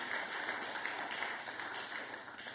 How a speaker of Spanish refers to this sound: Dale una ofrenda de palmas al Dios de la gloria con gratitud.